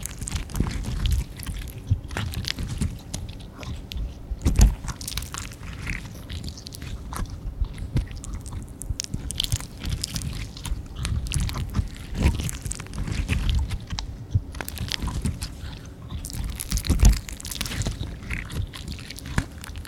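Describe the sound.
Close, wet munching and chewing sounds right by the ear, a steady stream of crisp mouth clicks and smacks that continues for the whole stretch with no talking.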